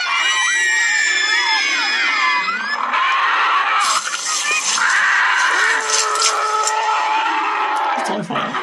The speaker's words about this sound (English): Then he would creep in. And just before morning, he would jump out and eat them all. And the children would scream and try to escape. But it was too late.